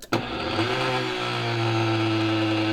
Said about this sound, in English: So place your peppers in the blender. I do large batches of this, you know, so it's always good to have a powerful blender.